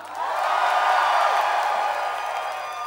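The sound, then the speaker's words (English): A crowd on the last night of a band's tour bursts into sustained applause mixed with cheers and whoops, a dense, loud wash of clapping that holds steady for a few seconds and only begins to ease toward the end. “Give yourself a big hand.”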